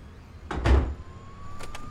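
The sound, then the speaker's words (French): A door leading onto a street in New York swings and thuds shut with a solid low knock behind a person stepping outside, locking them out, followed by a quieter latch click and faint street ambience; no one speaks. “Une autre porte. Ah, tiens. Elle donne sur la rue ?”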